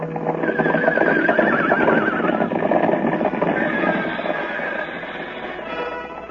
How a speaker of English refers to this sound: Now toward the ranch house comes another horse. This one wears a saddle, but no rider. He runs free, his bridle whipping about his head.